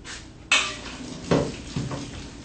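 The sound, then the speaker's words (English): Pasta tumbles into a metal colander: three sharp metallic clanks, the first loudest, with a brief rattling wash after each and no voices. “And we'll just pour our pasta right in there.”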